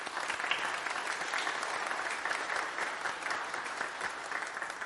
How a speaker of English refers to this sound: You want to applaud for them?